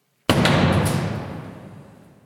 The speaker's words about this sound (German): Ich drücke die Klinke runter und trete die Tür mit einem sehr wuchtigen Fußtritt ein.